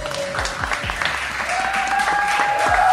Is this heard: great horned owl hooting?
no